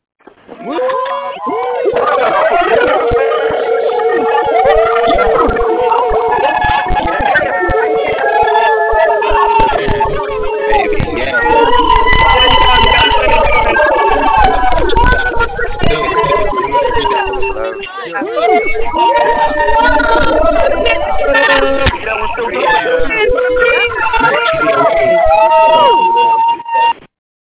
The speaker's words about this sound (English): If that excites you, I want to go ahead and unmute the lines. Let's hear you screaming at the phone right now.